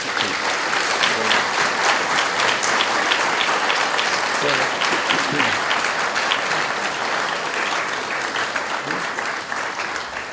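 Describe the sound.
An audience at an Orthodox Christian talk applauds the speaker steadily after his lecture, a dense wash of many hands clapping at an even loudness for about ten seconds, with a few voices faintly mixed in beneath.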